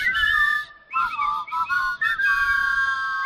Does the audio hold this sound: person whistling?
yes